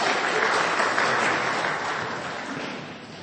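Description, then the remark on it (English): A crowd claps steadily in a dense, even patter of many hands, a round of applause for someone who found something during a scripture talk, holding strong for a few seconds before easing slightly toward the end. No voices are heard over it. “Give him a little round of applause as he found that.”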